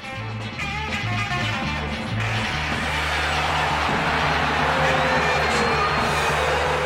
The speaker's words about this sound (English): As the thunderous music came to an end, cheers in the audience were drowned out by cries of outrage.